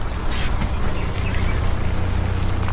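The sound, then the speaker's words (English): A busy bus station in Northampton with a steady low engine rumble and hiss of bus air brakes, a high whine drifting over the top, continuous and fairly loud with no one speaking. “Ooh, there's a cafe in that bus station.”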